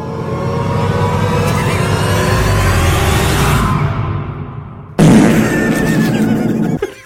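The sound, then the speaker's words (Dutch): A loud, raspy timer buzzer sound effect, sounding when a 10-minute timer runs out, drones for about five seconds, then cuts abruptly into a second harsh, noisy burst that ends suddenly. No one speaks. “En als die 10 minuten dan afgelopen is, dan klimt er een zoemer. Die klinkt deze week als volgt.”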